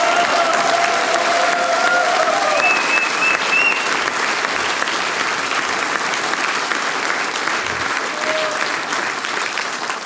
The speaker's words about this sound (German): Radiopremiere für drei junge Burschen, die jungen Aufbratler, das ist euer Applaus.